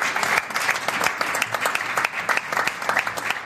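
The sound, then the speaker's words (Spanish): Sustained applause from a group of people, among them the Andalusian deputies of the Ciudadanos party group, many hands clapping in a dense, steady patter with brief sharper peaks, lasting the whole stretch with no talking over it. “Aplausos, entre otros, de los diputados andaluces del Grupo de Ciudadanos, más o menos un tercio del total.”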